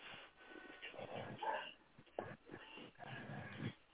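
A dog whimpers in a series of short, uneven whines and snuffly sounds, one rising to a thin high whine midway, with a brief sharp knock or thump between them.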